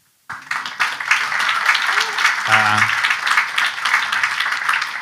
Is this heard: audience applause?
yes